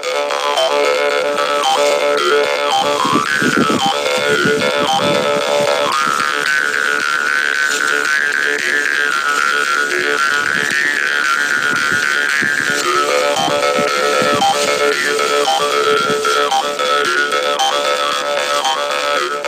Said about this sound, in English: Karinding was made by the ancestors to ward off the pest in the past. Because of that, the tones in karinding instrument did not give a name. After a long time, finally karinding is played as instrument to entertain farmers who are waiting their land